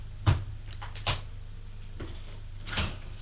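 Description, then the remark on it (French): A bedroom door being opened: a few sharp clicks and knocks from the latch and handle spaced over a few seconds, with a low background hum and no voices. “Ouvre une porte, entre, elle entre.”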